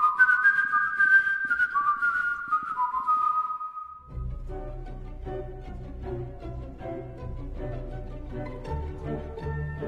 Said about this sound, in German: Es gibt nur ein Leitmotiv, eine einzige Melodie und die wird immer wieder gepfiffen. Sie wird zur Erkennungsmelodie, die schließlich den Täter überführt.